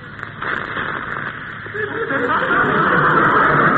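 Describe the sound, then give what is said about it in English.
A small, newly fixed wind-up music box tinkles out Silent Night, a thin, steady run of bright plucked notes that grows a little louder toward the end, with no one talking over it. “Now, look, you see this little music box? I think I got this fixed.”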